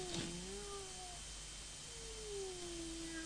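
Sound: kitten meowing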